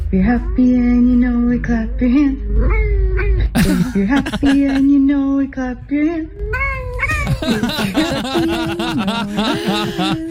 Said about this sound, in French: Eh bien, c'est vrai, une Canadienne fait le buzz parce qu'elle a chanté en duo avec son chat, et ça donne d'ailleurs ceci.